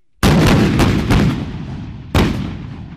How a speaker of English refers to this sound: Across miles of desert, two sides with the same pickup trucks and weapons scoot towards each other firing. Behind them, the artillery and rockets rain down on the battlefield.